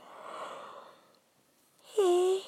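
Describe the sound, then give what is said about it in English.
A long, breathy inhale followed by a short pause, then a loud, voiced, drawn-out exhale with a steady tone: a single yawn, with no talking. “Very sorry, everybody. Yawning my head off.”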